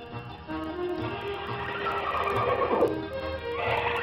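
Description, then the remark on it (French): A wild horse neighs and whinnies, a loud, wavering call with shifting pitch that swells midway, over a low rumbling background, with no speech, in the marshes of La Grande Motte on the edge of the Camargue, France. “Jusqu'à présent, les chevaux sauvages et les cavaliers ont été avec le Mistral les seules âmes du marais.”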